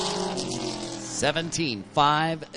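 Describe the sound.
The engine of the No. 74 race car drones steadily during time trials at Eastbound Park International Speedway, its buzzing pitch swinging up and down as it runs low through turns one and two, with a man's voice talking over it.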